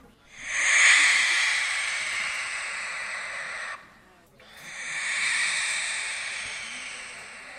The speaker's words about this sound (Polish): chciałbym do naszej rozmowy zaprosić sowy, którą by pan wybrał? Wybrałbym pewnie płomykówkę.